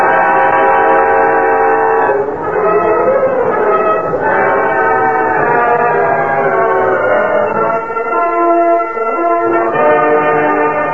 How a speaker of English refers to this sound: They had been there for some time after the departure of the cattle cars when they heard the distant sound of a locomotive.